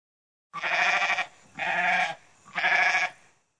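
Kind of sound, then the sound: animal, goat bleating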